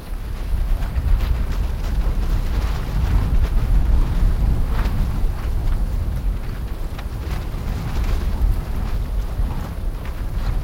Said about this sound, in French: Ah, quand il souffle très fort, c'est le vent, ça peut être angoissant, hein, ça... Surtout quand il souffle fort.